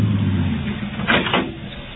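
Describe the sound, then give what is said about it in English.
A steady low engine rumble hums throughout as a new Nash car is driven, with a brief burst of brighter mechanical noise partway through. No one speaks. “Okay, Charlie, and thanks for the ride.”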